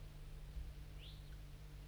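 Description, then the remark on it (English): A wild bird, lured in by 5-3 and flying from the bottom of a hollow through fog, gives one short, high, rising chirp with a tiny trailing note, faint over a steady low hum and background hiss. No one speaks. “So recording, 5-3's lured in some wild birds, flying from the bottom of the hollow, through the fog.”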